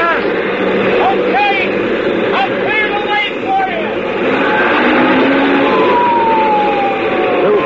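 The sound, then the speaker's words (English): Police car sirens wail and yelp in quick rising sweeps over a loud, dense rumble of traffic, continuous for several seconds, as the police car pulls out in front. “Pedal and pulled out in front, sirens screaming, red lights flashing, and I breathed once more.”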